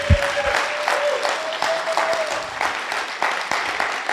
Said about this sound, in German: Also und viele, darf ich mal sehen, wer das erste Mal hier ist? Einfach mal ein Handzeichen. Ja, können wir euch nochmal einen Applaus geben. Schön, dass ihr da seid.